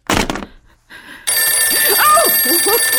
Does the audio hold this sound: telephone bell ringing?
yes